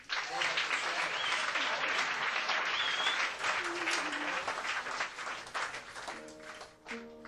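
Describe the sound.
An audience applauds steadily as musicians are introduced on stage, a dense wash of clapping hands that holds loud throughout and begins to thin slightly at the end, with a few faint voices underneath.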